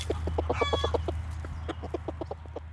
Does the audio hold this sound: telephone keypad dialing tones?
no